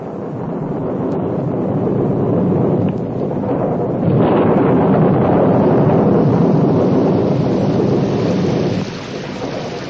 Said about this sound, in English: That wind created a terrible sound and brought in its wake fearsome clouds that were accompanied by lightning and roaring thunder, and that poured down on all sides torrents of rain as heavy as wagon wheels.